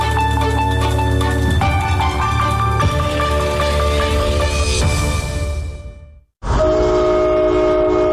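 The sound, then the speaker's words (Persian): A loud, sustained train horn blasts continuously for about six seconds, rich and chord-like, then cuts out briefly before sounding again. No one speaks. “بوق قطار، صوت کشتی، زنگ کارخانه.”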